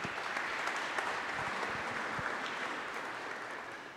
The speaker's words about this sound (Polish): Z tego miejsca chcemy też przywitać władze uczelni, profesorów, wykładowców, pracowników administracyjnych, a także wszystkich przyjaciół Akademii Kultury Społecznej i Medialnej w Toruniu. Wielkie brawa!